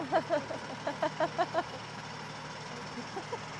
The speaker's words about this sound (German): Das hört sich an wie ein guter Boschhammer. Es steigt Rauch, Dampf, Staub, irgendwas steigt irgendwie gegen das starke Scheinwerferlicht auf.